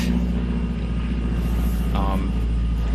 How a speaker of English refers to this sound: Also, we're recording outside, so you may hear various noises. Yeah, like the airplane.